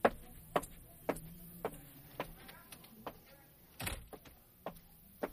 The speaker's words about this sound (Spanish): Esa era la forma peculiar en que Eduardo tocaba la puerta, pero esta vez no venía solo.